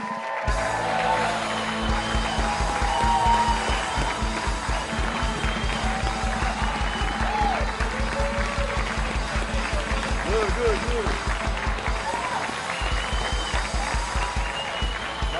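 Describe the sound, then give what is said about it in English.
Loud, sustained studio audience applause welcoming a 300-pound football player as the guest of a live show, from start to finish, with dense rapid clapping, a few whoops and cheers, and some voices mixed in. “Ladies and gentlemen, please give a warm Packers Live welcome to Mike Daniels.”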